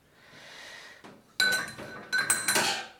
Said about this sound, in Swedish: Så då har vi kastrullen och går bort med den till diskbänken. Så, sen lyfter vi ur silen med tebladen i. Sådär.